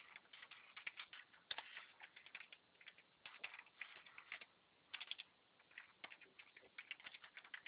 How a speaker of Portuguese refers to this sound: O senhor vai na lupinha, isso, escreve o nome do aplicativo, digita, né, no caso. Aí, clique em Enter.